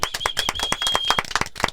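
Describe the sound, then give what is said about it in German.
A few people clap briefly to celebrate a one-year anniversary, quick uneven claps overlapping at a brisk pace, fairly loud with no talking, plus a faint steady high whine running through the first part. “Da können wir eigentlich schon mal nochmal klatschen fürs Einjährige, oder?”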